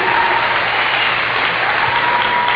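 A steady burst of audience applause for a man, dense and loud throughout, with many hands clapping at once in a continuous wash of noise.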